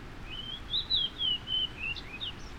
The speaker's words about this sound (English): It's now early April, and more cold and windy weather has arrived. But one morning I discover a migrating fox sparrow singing loudly from shrubs at the edge of my yard.